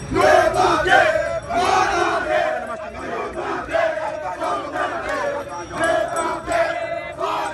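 A protest crowd in Port-au-Prince, Haiti, shouts slogans against insecurity and the high cost of living together in loud, rhythmic bursts, many voices rising and falling in repeated chant-like waves with no pause throughout.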